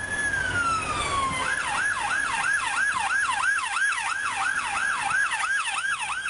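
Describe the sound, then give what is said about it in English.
An emergency vehicle siren starts with a falling wail, then switches to a fast, rapidly oscillating yelp that repeats steadily and loudly, with faint road noise underneath and no talking. “we need to see if the travels that he has been doing with Monocle through the years prove to be fruitful and he'll be able to guess the right siren.”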